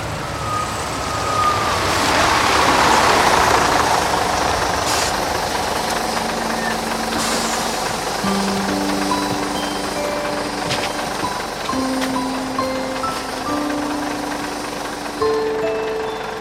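The large diesel engine of the Sukacita bus idles with a steady low rumble as it arrives at a busy bus terminal, while scattered tonal beeps and horn-like tones sound intermittently in the background.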